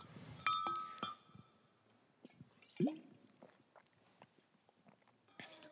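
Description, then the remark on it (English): A glass of water clinks a couple of times with a faint ringing tone, followed by quiet sips and a single soft gulp, then small wet mouth clicks; no one speaks. “A bit of water.”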